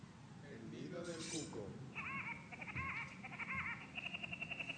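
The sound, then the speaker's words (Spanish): A short jingle for a radio programme section: a busy mix of warbling, voice-like sounds and a rising swoosh, then bright repeating chime-like tones that pulse in a quick, steady rhythm until the end. “Y entonces también, ahora si os parece, oímos la cortinilla.”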